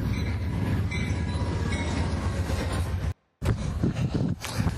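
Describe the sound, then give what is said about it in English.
A train rumbles past on the tracks, loud and steady with heavy low-end roar and metallic rattling, broken by a brief dropout of silence before the clattering resumes. “Oh, I got train coming. Make sure I get off the tracks here.”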